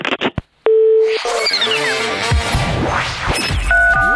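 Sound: telephone line tone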